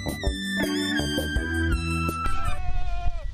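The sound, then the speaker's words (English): A loud animal bleat with a wavering, nasal tone, held for a few seconds before trailing into rougher barnyard noise, as goats and sheep call at a farm on Ostrander Road in Ghent that also keeps an alpaca. “At Liberty Farms at 114 Ostrander Road in Ghent, I located goats, hello, sheep, and an alpaca, but no birds.”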